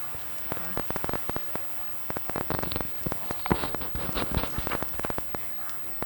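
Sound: rain starting to fall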